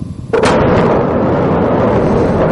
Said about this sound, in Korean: 운석은 폭발하면서 요란한 소리뿐만 아니라 사람 귀에는 들리지 않지만 훨씬 먼 거리까지 도달하는 초저주파 소리를 만들어냅니다.